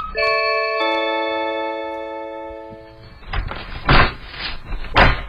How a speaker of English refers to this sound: He walks up to some house, I'm assuming is a random house. I'm not really sure. Maybe he lives in the same neighborhood. He rings the doorbell.